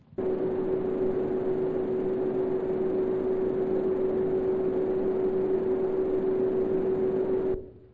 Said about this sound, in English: Or the ever famous hum and buzz.